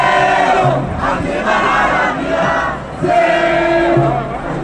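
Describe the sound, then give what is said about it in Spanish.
A large protest crowd in Madrid, marching from Plaza de Cibeles to Puerta del Sol against the Israeli offensive in Gaza, chants slogans in unison, loud rhythmic shouted phrases rising and falling in repeated waves, with many voices blending into a dense roar. “En Madrid, la manifestación, que discurrió desde la Plaza de Cibeles hasta la Puerta del Sol, reunió a 250.000 personas y estuvo encabezada por un amplio número de palestinos y palestinas que gritaban frases como «No es una guerra, es un genocidio”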